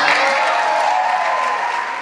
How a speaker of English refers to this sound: So the cheers were a little bit louder there just because some Republicans understood that, you know, this is a plan that the GOP legislative leaders have discussed before.